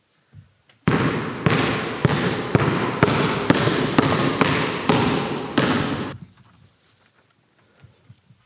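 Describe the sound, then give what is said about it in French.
A basketball is dribbled on a hard court: about a dozen loud, evenly spaced bounces over five seconds, each ringing slightly, then it stops and faint background noise remains. “Pour nous, c'est du basket.”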